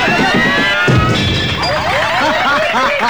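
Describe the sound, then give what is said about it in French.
A water balloon bursts with one loud, sharp splat just under a second in, as a woman on stilts tries to take it with her teeth in a game, followed by a steady wash of lively overlapping voices and chatter. “sinon c'est sûr qu'elle va péter comme elle vient de faire là”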